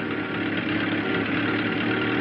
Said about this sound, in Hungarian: Gorcsev vadharci kiáltást hallatva beletapos a gázpedálba, és eszeveszett tempóban iramodik a sportkocsi után.